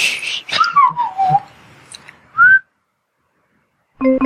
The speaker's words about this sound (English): I can't whistle loud.